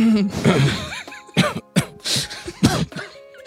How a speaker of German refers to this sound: Man dann, sollte auch nicht so ins Mikrofon räuspern wahrscheinlich, ne?